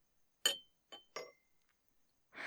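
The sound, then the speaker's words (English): Three bright clinks of wine glasses touching, each with a short ringing tail, irregularly spaced, followed by a soft rustling noise at the very end. “My body's arrived to break the sexual tension and shove a glass of wine in your face.”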